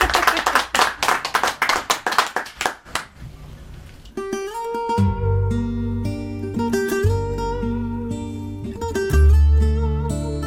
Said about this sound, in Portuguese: Um aplauso, sim, meninas. Está bom.